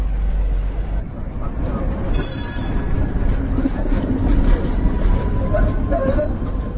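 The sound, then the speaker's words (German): Heavy morning street traffic, cars bumper to bumper on a normal workday morning, rumbles steadily and loudly from start to finish, a dense wash of engine noise with a brief high-pitched squeal of brakes partway through. “Autos fahren Stoßstange an Stoßstange. Jeder scheint es eilig zu haben hier, ein ganz normaler Arbeitsmorgen halt.”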